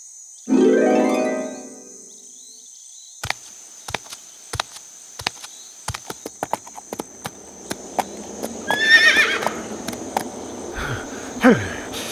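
A horse gives a loud, descending neigh, followed by a steady series of sharp hoof clip-clops at an even walking pace, with a faint insect-like hum running underneath.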